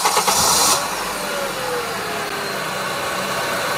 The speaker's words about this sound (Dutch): Weer een auto. Is weer een auto, inderdaad.